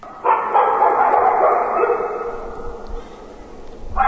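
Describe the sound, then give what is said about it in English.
A pack of dogs barks and yelps together in a loud, continuous din that gradually fades after a few seconds before another burst of barking breaks out at the very end. “Will someone not silence the incessant barking of those rabid dogs?”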